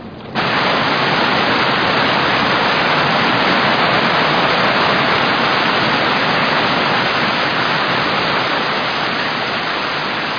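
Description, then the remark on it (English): A waterfall rushes in a loud, steady roar of churning water that starts abruptly and holds constant throughout, with no voices. “At the bottom, behind the waterfall, there's an entrance.”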